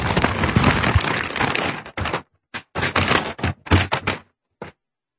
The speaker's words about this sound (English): Worse than that. Way worse. It was like for 45 seconds he was shaking paper.